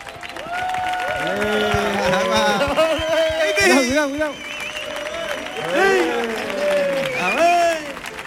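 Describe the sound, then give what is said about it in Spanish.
A crowd bursts into steady, loud applause lasting several seconds, mixed with scattered cheers and whoops from many voices, swelling and dipping slightly before continuing, as a performer is welcomed on stage. “Bueno, fuerte el aplauso”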